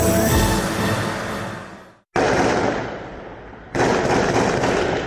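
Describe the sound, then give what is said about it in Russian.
Loud, dense bursts of automatic gunfire crackle in three long volleys, each starting abruptly and fading, with a brief silent gap between the first two. No one speaks. The gunfire is from the armed attack on Makhachkala and Derbent. “Грохот взрывов, автоматные очереди, полыхающие храмы и синагога.”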